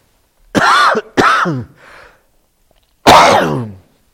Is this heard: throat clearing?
yes